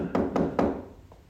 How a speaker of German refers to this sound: Er klopft. Hörst du ihn klopfen?